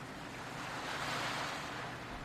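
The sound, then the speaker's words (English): Soft ocean surf washes gently onto the shore, a broad hiss that swells and eases in one slow, calm wave with no voices present. “And you see little ripples where gentle, peaceful waves roll into the shore.”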